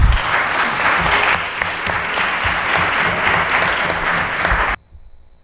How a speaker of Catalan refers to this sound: Alguns s'han quedat a aplaudir a mitges, si voleu, que ja podeu fer-ho.